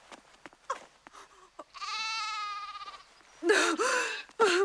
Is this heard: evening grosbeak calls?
no